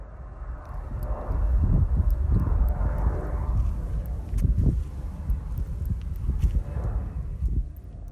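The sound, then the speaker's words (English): A low, steady rumble of an airplane passing overhead fills an outdoor field recording made on a long walk, swelling slightly and holding throughout, with faint scattered ticks and footstep-like knocks in the background. “I got airplane sounds and cars and people and maybe some birds here and there.”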